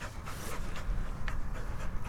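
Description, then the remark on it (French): The dog Narco pants steadily after retrieving a crow, quick rhythmic breaths with soft bursts of exhaled air, continuing throughout without any voices. “Allez, apporte, mon chien.”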